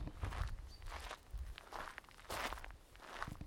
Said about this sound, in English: There's an example of my crunchy drive as I make my way down in my comfy espadrilles to see if my little red flag is up.